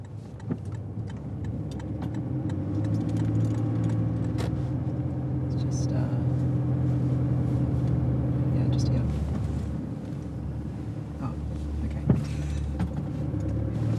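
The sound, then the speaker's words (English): Steady low rumble of an idling car heard from inside the cabin, parked on the side of the road outside a small brick home in Perth South, a droning engine hum with occasional clicks and faint indistinct voices, ending with a sharper knock near the close. “I'm sitting in the car on the side of the road with my colleague and friend”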